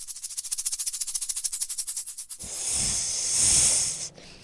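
Snakes hiss, first in a fast run of sharp, rhythmic bursts, then in one long, loud, breathy hiss that cuts off near the end. No one speaks.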